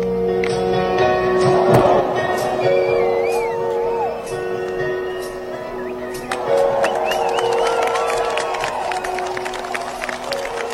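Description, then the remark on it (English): A big concert crowd cheers in a steady roar as the performer gets back on his feet on stage, with shrill whistles, whoops and scattered claps cutting through. The noise swells early on, then surges again about halfway through. “You know you're old when people clap when you get up.”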